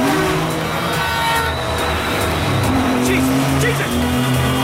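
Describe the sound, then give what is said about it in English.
A car engine revs hard as it speeds through traffic and through a stop sign, weaving dangerously, with tires squealing during quick swerves and a horn tooting, loud and continuous throughout. “The car speeds through a stop sign, leaving a tangle of traffic in its wake.”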